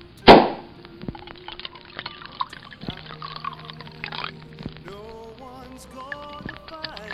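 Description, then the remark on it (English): A sharp pop opens, then champagne is poured into glasses in a steady fizzing stream, the pitch rising as each glass fills. It is fairly quiet, with no talking. “Pour us some bubbly, Mr.”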